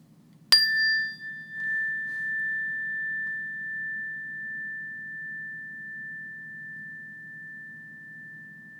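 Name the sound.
meditation bell ringing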